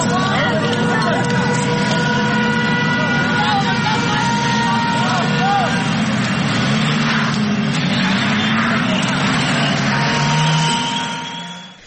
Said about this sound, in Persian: در یکی از ویدیوهایی که الان میتونیم صداشو بشنویم، آتش دیده میشه، حضور افراد مختلف با شعارهای گوناگون هم دیده میشن که حالا صداشو الان میتونیم بشنویم.